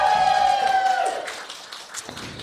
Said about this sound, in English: Round of applause